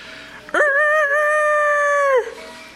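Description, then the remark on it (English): A person imitates a rooster's crow with one long, loud, steady call held for well over a second, then trailing off with a slight downward slide. No clucking follows. “We're going to do a little animal sounds and calls for you.”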